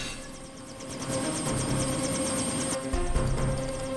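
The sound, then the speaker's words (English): A helicopter runs, its rotor beating in a fast, steady chop over a dense engine roar that holds at a constant loudness throughout, as a person boards it. “Laura boards the helicopter.”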